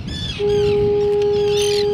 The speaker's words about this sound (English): One of them is little more than a hill of rocks with a majestic old lighthouse perched on top. We're right next to the lighthouse, and you'll probably hear the foghorn as we're walking around as well.